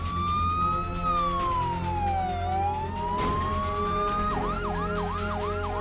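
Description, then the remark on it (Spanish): Ambulance sirens wailing loudly after a terrorist attack near Atocha station in Spain, a slow rising-and-falling tone that switches to a rapid repeating yelp near the end, over a steady low rumble of traffic. “Mientras que las sirenas de las ambulancias advertían de que algo fuera de lo normal estaba ocurriendo en el corazón de la península,”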